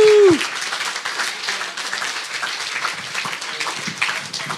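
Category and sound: crowd, audience applause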